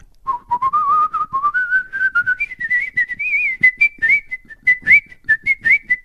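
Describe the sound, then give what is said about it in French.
A person whistles a lilting melody, dubbing the whistling for an actress in an audition scene, a clear pure tone gliding upward and then hopping between notes in quick, breathy phrases, with no talking underneath. “Elle chantait très mal, mais elle sifflait bien. Mais sauf que le sifflement, c'est moi qui le faisais, évidemment.”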